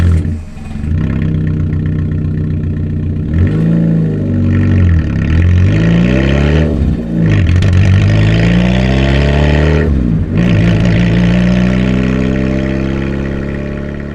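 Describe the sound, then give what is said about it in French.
A car engine drives steadily, its pitch rising and falling as it shifts gears and revs through several accelerations, loud and continuous with no voices. “Je trimballe la précieuse cargaison dans ma bagnole.”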